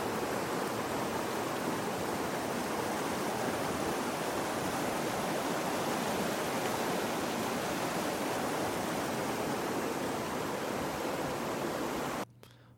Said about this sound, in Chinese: 没有想到说录那个河水的声音、溪流的声音效果没有特别好，因为我发现那个声音有点太大，然后因为那个溪水它其实流得蛮快的，所以刚刚那段声音听起来好像就会蛮像杂音的这样。